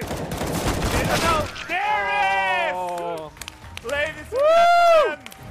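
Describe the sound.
A dense, rapid burst of video game gunfire crackles for about a second and a half, the final shot that wins the match for the Silver Snipers at the world senior championship, then cuts off as loud, excited shouting voices take over.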